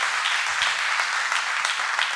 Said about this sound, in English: I was going to go till you clapped, I'm telling you, I was ready.